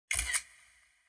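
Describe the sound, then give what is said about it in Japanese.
A single crisp camera shutter click as a mother takes a photo of a girl in a school uniform: a sharp mechanical snap with a second quick clack, followed by a short fading ring-out; clear with no voices. “シャッター音が鳴り響くと、あたりが真っ白になり、目の前に大きな鏡が現れます。”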